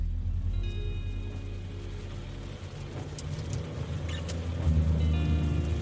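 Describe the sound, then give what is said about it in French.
Steady rain falls on an evening with scattered droplet ticks over a constant low engine rumble, as a car drives alone along a long country road. No one speaks. “Encore un soir de pluie.”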